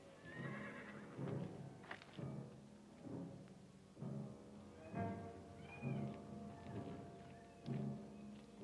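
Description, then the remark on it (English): A horse neighs and whinnies again and again in a steady series of fairly loud calls, with no one talking, in a scene from the film Gunfight at the O.K. Corral. “Cotton, you get over with the horses.”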